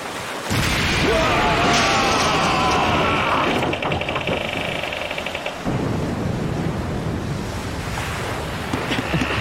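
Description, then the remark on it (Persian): Loud, continuous roar of rough sea waves churning and crashing up close, a dense wash of surf noise that surges slightly and never lets up, with no clear talk. “این منطقه از دریا جز به خطرناکترین مناطق برای کشتی است.”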